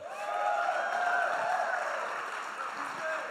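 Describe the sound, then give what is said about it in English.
An audience claps steadily for a few seconds, a dense, even wash of hand claps mixed with some vocal cheering and murmuring from the crowd. “Come on, give him a clap.”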